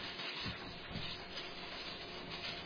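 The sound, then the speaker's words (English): Many Bible pages rustle and turn at once as people turn to 1 Peter chapter 4, forming a steady, soft papery hiss with small flutters and scrapes throughout, with no voices. “I'm hearing all those Bibles rustling those pages.”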